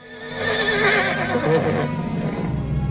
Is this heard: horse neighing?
yes